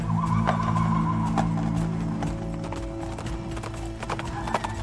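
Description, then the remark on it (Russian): Galloping horse hooves pound in a quick, steady rhythm, the beats continuing throughout over a sustained low droning tone in the background. “Еще сильнее стал ругать своих слуг, а потом не выдержал, вскочил на коня и сам помчался в погоню.”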